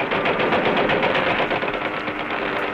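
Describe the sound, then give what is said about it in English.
Rapid, sustained cannon fire from a hand-operated cannon mounted in the nose of an aircraft, wrecking a train, rattles loudly and continuously, the shots blurring into a dense, harsh roar with a faint engine drone beneath. No one speaks. “Now, in this instance, he used his cannon, which was mounted hand-operated in the nose of the aircraft, and he wrecked the train with cannon fire.”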